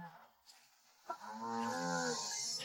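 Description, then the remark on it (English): A single long, loud cow moo starts about a second in and holds steady to the end, rich and droning, preceded by quiet background noise and a brief soft thump. “I just killed a cow. That cow dead.”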